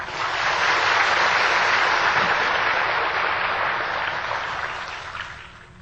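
A crowd claps steadily for about six seconds, a dense, crackling wash of many hands at even loudness that thins out and fades near the end. No one speaks over it.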